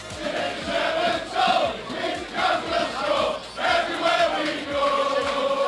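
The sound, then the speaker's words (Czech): A large crowd of football fans sings a rhythmic, repeating chant in unison about the 2.01-metre height of Liverpool and England player Peter Crouch, their massed voices loud and continuous, rising and falling in short phrases about once a second. “Jeho výška 2 metry a centimetr si vysloužila pokřik.”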